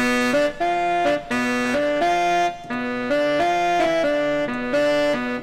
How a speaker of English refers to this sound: Sax distortion.